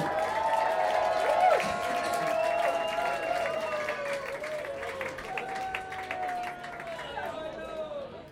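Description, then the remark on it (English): A crowd at a gig at Sinner's Club claps steadily in a dense, sustained wash of applause, with cheering and shouting voices rising over it, holding strong for several seconds before easing off slightly at the end. “Big applause to Sinner's Club.”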